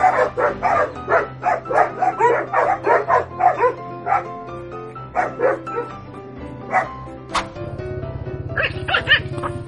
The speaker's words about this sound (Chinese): 而往往叫得最凶的狗却是最怂，比如这群在卖力营造热闹气氛的狗狗们，实在是最好的演员了。